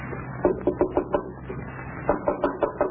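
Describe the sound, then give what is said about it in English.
Knocking at the door of Lum's home in Pine Ridge in two bursts of about five quick, evenly spaced raps, separated by a brief pause. The knocks are moderately loud over a faint low hum, with no voices. “There's someone at the door. Listen.”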